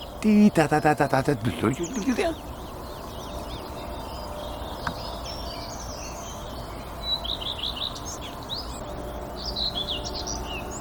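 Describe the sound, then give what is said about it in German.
A songbird sings thin, high, repeated phrases in two motifs, adding another motif at the end, over a steady outdoor hiss, with a short burst of human voice at the very start before the song continues softly. “Der hat zwei Motive hier. Singt noch ein anderes Motiv hinten dran.”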